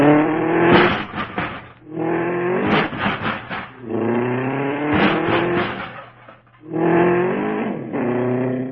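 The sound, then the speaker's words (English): A car engine revs loud in several surging bursts, each climbing in pitch and then cutting back, as the vehicle pulls out of a tight parking space, with no voices heard. “We were really parked in there tight.”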